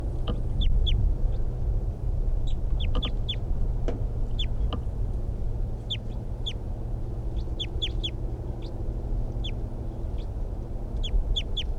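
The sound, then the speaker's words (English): A wild bird in a tree calls and decoy birds answer, short sharp high-pitched notes coming in quick clusters of two or three, repeated throughout over a steady low rumbling background. “Wild bird. Decoys respond.”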